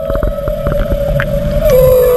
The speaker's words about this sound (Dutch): Jimmy die stuurde een walvis is het en Evelien die kende zelf de naam van de walvis. Het is Timmy de walvis.